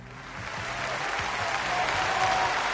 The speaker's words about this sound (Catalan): Aquest aplaudiment que els dediquem als membres del patronat que realitzen la Passió de Vilalba dels Arcs arriba a la 20a edició, ho fa amb aquests dos reconeixements més que merescuts.